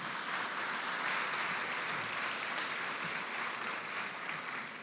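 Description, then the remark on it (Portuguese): An audience at Paz Church claps steadily and continuously for Jesus after a prayer, a dense, even wash of many hands that holds at a fairly constant loudness for several seconds, fading slightly at the very end, with no voices. “Se quiser dar mais um aplauso para Jesus.”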